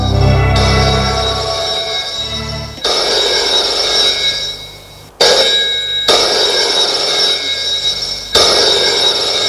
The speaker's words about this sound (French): Un soir, Florent téléphone à Gilbert chez lui. Le téléphone sonne dans la chambre de Gilbert.